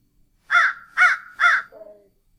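A crow caws three times in a steady rhythm, loud, followed by a short softer croak; no voices.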